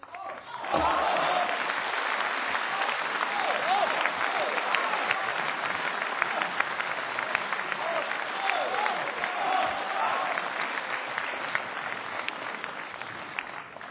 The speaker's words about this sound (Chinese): 谢谢您的掌声鼓励， 不容易。